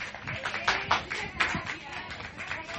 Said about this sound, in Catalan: Un aplaudiment per aquests, les mans innocents d'aquest concurs.